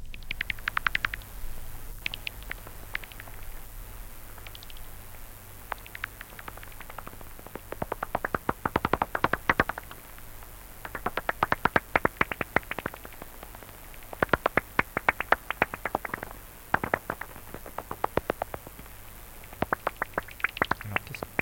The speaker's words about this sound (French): Alors, là, on entend un son artificiel. Parce qu'on ne peut pas entendre une chauve-souris. C'est ce qu'on disait juste avant. Donc, ce qu'on entend là, c'est un son qui est produit par un appareil